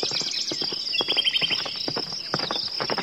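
Horse hooves clatter on a path as a stranger rides up on horseback, in a steady rhythm of sharp clip-clop strikes, with a continuous high insect drone in the background and no voices.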